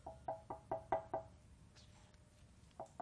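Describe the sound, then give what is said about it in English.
A quick run of five sharp knocks on the door of the place in Jerusalem where Jesus is staying, evenly spaced, then a pause and two more knocks near the end. No one speaks; the knocking is moderately quiet. “He gets outside the door and he's like this.”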